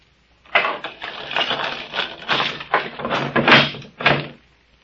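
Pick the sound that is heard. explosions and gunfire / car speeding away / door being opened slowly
door being opened slowly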